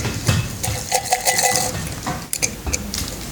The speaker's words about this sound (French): mon instrument s'appelle la canette à cordes.